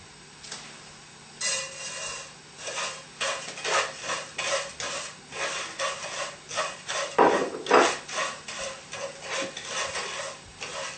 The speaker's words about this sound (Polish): Wlewamy trochę oliwki. I wsypujemy na rozgrzany tłuszcz granulat i musimy pamiętać o tym, żeby mieszać, żeby on się nie przypalił.